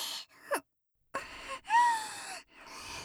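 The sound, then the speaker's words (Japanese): Heavy, breathy panting comes in several uneven bursts, with a drawn-out moan rising then falling in the middle. The voice is fairly quiet, with no words spoken. “はぁはぁ言ってる先輩のキモい喘ぎ声も、BGM みたい。”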